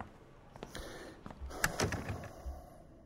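A door is pushed shut, with a few soft knocks and a scraping rattle building to a firmer clunk, over a quiet room hum with no talking.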